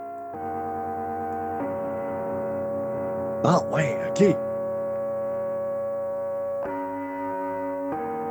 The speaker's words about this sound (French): Il y en a une allemande ici qui s'appelle la Gong Station. Je ne sais pas si toi, tu l'entends, mais on a comme un carillon de sonnette.